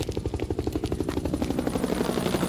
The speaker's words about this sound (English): A helicopter! Must be the police again.